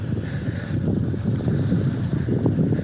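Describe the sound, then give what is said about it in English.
A loud, steady car engine rumble as the car idles, deep and continuous throughout, with a faint windy hiss over it and no voices. “That's such an annoyingly loud car.”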